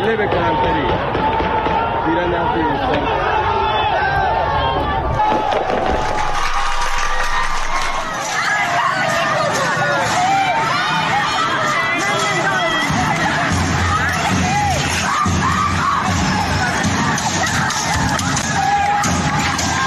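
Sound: street protest crowd shouting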